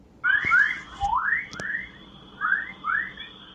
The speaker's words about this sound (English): Not, as you might think, the sound of birds chirping, but something rather more exotic, or perhaps I should say extraterrestrial. Those were electromagnetic waves from space, waves which scientists think are affected by the Earth's magnetic field.